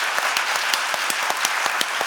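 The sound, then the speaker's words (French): A crowd claps steadily for the welcome team, a dense patter of many hands with sharper individual claps popping out in a quick, irregular rhythm, fairly loud throughout with no voices. “Et d'ailleurs, est-ce qu'on pourrait applaudir bien fort le welcome team?”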